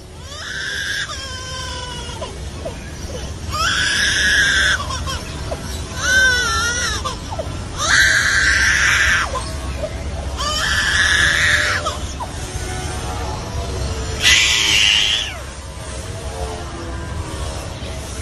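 A lyrebird mimics a crying baby, producing a series of about six wailing, sobbing cries, each lasting a second or so with short gaps, clear over a faint low rumble.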